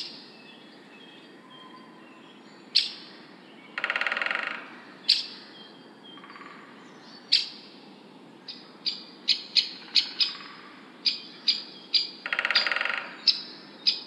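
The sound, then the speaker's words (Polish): A great spotted woodpecker gives sharp, single 'kik' calls, spaced out at first and then coming in a quicker series, against a quiet woodland background with a couple of brief raspy bursts. “To właśnie głos dzięcioła dużego.”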